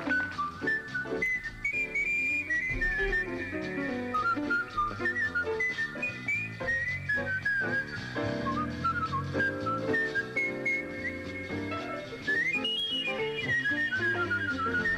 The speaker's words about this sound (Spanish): Este es, vamos a hablar del artístico, y hubo alguien que se recorrió todos los teatros del mundo, acompañó a …, acompañó a un montón de gente silbando jazz. Era el gran ….